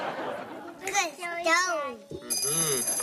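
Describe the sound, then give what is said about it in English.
Lively voices talk, then in the final second a telephone bell starts ringing, a bright, steady ring sounding over continued speech. “And then the phone rang, the end.”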